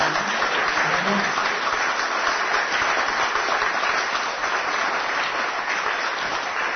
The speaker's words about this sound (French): Je vous demande aussi de l'applaudir vraiment très fort.